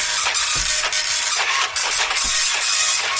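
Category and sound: machine, printer printing pages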